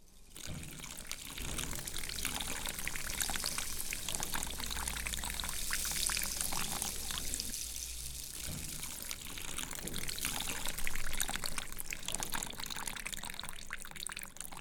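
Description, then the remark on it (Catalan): Water pours steadily for several seconds in a continuous, splashing stream, fairly loud, with no one speaking, as drinking water is given to someone who stopped for a drink. “Vine, que et donaré aigua.”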